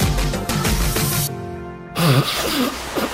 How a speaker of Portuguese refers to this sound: Esta tosse. A doutora vizinha diagnosticou gripe. O doutor tio deu uma segunda opinião. Alergia.